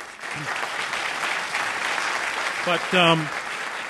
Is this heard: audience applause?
yes